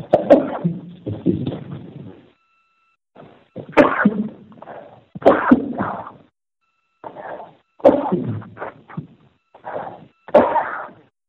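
A loud sneezing attack: a run of repeated sneezes, several sharp bursts with short breathy pauses and a longer gap partway through, with no talking in between.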